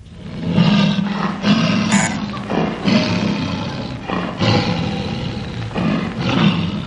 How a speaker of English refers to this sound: The many-a-slip game warden, Willem van Stoop, this week finds himself in an untamed African jungle, listening to the hunting call of a lion.